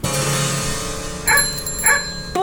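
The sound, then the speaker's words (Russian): A mongrel dog barks twice, fairly loud, the two sharp woofs about a second apart after a brief rumbling, whiny lead-in, with no one talking. “Подумаешь, тузик беспородный.”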